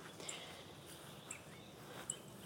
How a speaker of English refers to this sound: I'm still at Oriole Acres, as you can no doubt detect by all the bird song around me.